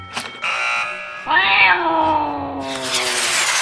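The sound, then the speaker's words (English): A loud, drawn-out meow from a cat named Teeny Tammy that rises and then slowly falls in pitch. A short buzzing tone comes just before it, and a hissy wash of noise follows near the end. “And here's my cat.”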